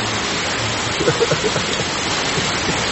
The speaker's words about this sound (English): Did it ever rain this hard when we were giving class? Have we ever had this heavy of a rain during class? Yeah. We have. Yeah, we have recordings. It's really heavy.